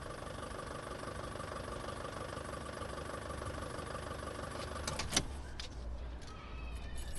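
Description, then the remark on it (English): A van's engine runs with a steady, low rumbling drone throughout as the van is driven down a road at sunrise. Near the end a sharp click cuts through, followed by brief mechanical whirs. No one speaks. “Joey drives the van down a road in the soft light of sunrise.”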